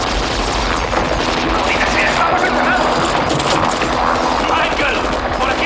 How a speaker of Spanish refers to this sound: Los disparos abaten a otros dos y destrozan la lámpara.